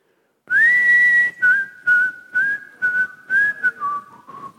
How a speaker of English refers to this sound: And now, I don't know if you remember in the 80s, whose memory goes back long enough to remember the 80s, and you might remember this song. Let me see if I can still whistle.